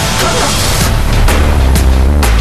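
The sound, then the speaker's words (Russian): Loud, continuous car engines roar, a dense low rumble that holds steady throughout, with a few sharp bursts cutting through the din. “Моторы.”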